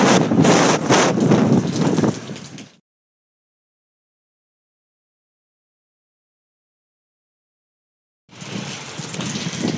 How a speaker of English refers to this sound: standing out here and just thought I'd let you hear that we are in a huge wind path storm. Winds are about 50 miles an hour and rain is just pouring. Not that I really care about, hearing the rain, but the wind, I wanted you to hear. It's just crazy.